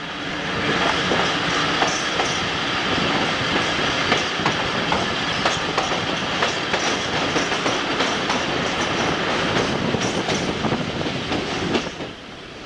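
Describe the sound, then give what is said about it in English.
Steady rumble of a moving train heading toward Yeticuli, with rhythmic clickety-clack of wheels over rail joints, loud and continuous throughout with faint metallic rattles and no voices. “Pick up a little of the train noise.”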